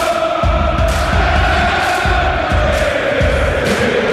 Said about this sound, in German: Männer mit nacktem Oberkörper stehen am Zaun und schreien sich die Seele aus dem Leib.